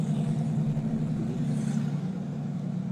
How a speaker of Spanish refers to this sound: Era una camioneta y sonaba como moto. Sí, güey. Güey, qué pedo. Le recomiendo que revise su motor, señor.